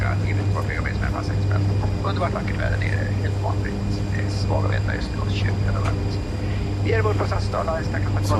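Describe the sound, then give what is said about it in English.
A steady, low airplane engine drone hums continuously throughout a bumpy flight, heard from inside the cabin, with soft, indistinct voices murmuring over it. “It's the last time I ever get on a plane again.”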